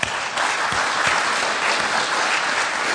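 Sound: audience clapping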